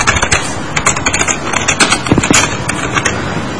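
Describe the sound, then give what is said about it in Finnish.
Rapid, uneven clicking of keys on a computer keyboard, fairly loud, a quick burst of typing a name into a presentation slide's subtitle, with short pauses between strokes and no voices. “Eli klikataan tonne, vaikka tonne alaotsikkoon, mä laitan sinne vaikka oman nimeni.”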